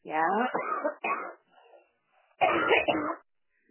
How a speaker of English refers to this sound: You've got a really bad cough, haven't you? I smoke.